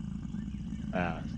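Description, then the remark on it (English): A person voices a short, throaty growl imitating a mountain lion, rising briefly near the end of a low, steady rumbling background. It is brief. “Like a cat growl. Yeah. Oh no, it's a mountain lion.”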